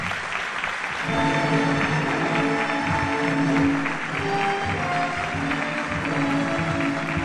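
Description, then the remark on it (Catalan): An audience breaks into steady, dense applause as a speaker is invited up to present insignia: a continuous wash of many hands clapping at an even loudness that holds for several seconds without any voices over it. “Un fort aplaudiment.”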